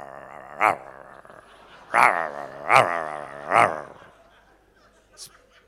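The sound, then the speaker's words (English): A man's voice imitates a growling dog, a low rough snarl broken by four sharp bark-like bursts, fairly loud, trailing off into a faint short yelp. “and this guy comes in, he's sitting down the back, and he's got demons, and so he starts growling like a dog.”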